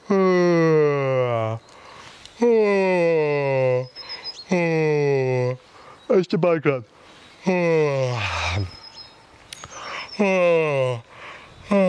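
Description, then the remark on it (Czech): A series of loud, drawn-out voiced yawns done as a vocal warm-up exercise to open the mouth and deepen the voice, each a long sighing sweep that falls in pitch, repeated about six times with short pauses and a brief spoken remark between them. “Takže pojďte se mnou zívat. Hezky nahlas ven, nebojte se otevírat pořádně pusu.”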